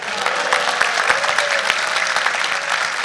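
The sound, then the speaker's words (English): A crowd applauds steadily for a few seconds, a dense, even patter of many hands clapping at once, sustained without pause. “If you've had a lot to eat, show of applause.”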